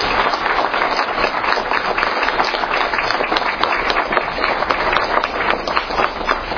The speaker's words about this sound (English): I don't think it would be inappropriate for us to offer a round of applause or thanks to these men for their leadership.